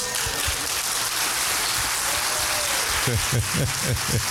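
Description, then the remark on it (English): Steady, dense applause from a church audience clapping in gratitude during a sermon, a loud rushing patter of many hands, with voices calling out over it near the end. “Glory will follow your hand clap.”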